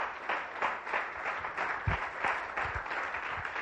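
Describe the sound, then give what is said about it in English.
An audience claps in a steady wash of applause, many hands overlapping into a dense, crackling patter that holds at an even, fairly loud level for several seconds. “Don't clap until the end.”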